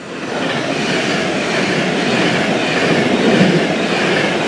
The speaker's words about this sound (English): I'm standing well back. That's my platform, platform 6. It looks like there's a vehicle stuck on the track somewhere up ahead, so a lot of the trains are being delayed and I've got to get to Manchester. Cue loud train passing.